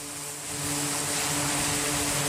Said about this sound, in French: Au large des côtes yéménites, les aéronefs font leurs allers-retours sur les porte-avions. Des vols d'exercice.